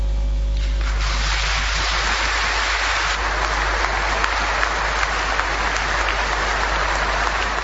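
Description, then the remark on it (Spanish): Sustained applause from a large crowd at the end of a state ceremony, a dense steady clatter of many hands clapping that swells in the first second and continues without letup, prolonged for a long while. “Ese aplauso se prolongó un largo rato y fue el final de esa ceremonia que se concretó ayer y que duró unos 20 minutos aproximadamente.”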